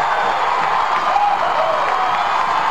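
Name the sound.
stadium crowd cheering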